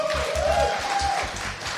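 A short burst of steady applause fills the moment, with a brief rising electronic tone sounding over it and a low rhythmic thumping underneath.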